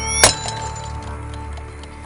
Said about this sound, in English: She drops her alarm clock on the ground.